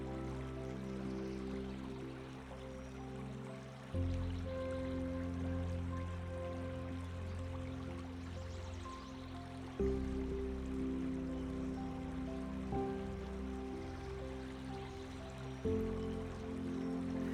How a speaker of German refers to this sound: Das stetige Fließen des Baches beruhigt dich und du kannst alle Sorgen und Anspannungen vom fließenden Wasser davontragen lassen.